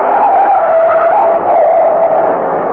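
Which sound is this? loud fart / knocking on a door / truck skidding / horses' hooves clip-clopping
truck skidding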